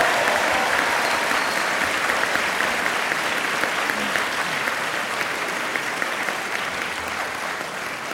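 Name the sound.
round of applause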